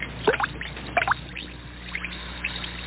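Two quick watery plops, one after another, as Alka-Seltzer tablets drop into a glass of water, followed by a faint, steady fizzing hiss as they dissolve.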